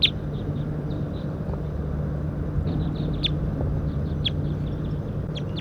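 A wild bird up in a pine tree calls in short, high-pitched chirps and toots, coming in scattered bursts over a steady low rumble of background noise. No one speaks.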